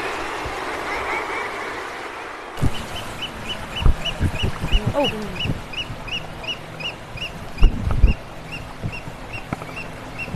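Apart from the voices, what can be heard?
oystercatcher calls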